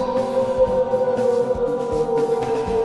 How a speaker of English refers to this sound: A wolf howls in the night.